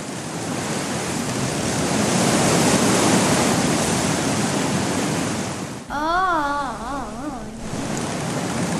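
Wind blows loudly and steadily as a broad, roaring rush. Near the end it briefly drops away behind a wavering, howling tone that rises and falls several times.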